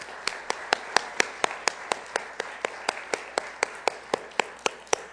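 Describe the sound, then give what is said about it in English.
An audience applauds each other in thanks for a serve day: steady, rhythmic clapping of sharp, evenly spaced claps at roughly four per second, sustained throughout over a faint background hiss, with no one talking. “So truly, I would like you to applaud each other as we say thank you for an incredible serve day.”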